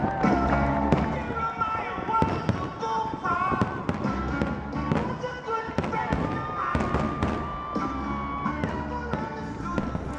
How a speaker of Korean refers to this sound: 네, 이게 무슨 소리인지 아시죠? 네, 뭐 뻥뻥 터지는 소리가 들리는데 독립기념일 불꽃놀이 소리 아니겠어요? 맞습니다. 네. 작년 7월 4일 이곳 워싱턴 DC 안에서 진행됐던 독립기념일 불꽃 행사 가운데 일부를 들으신 건데요.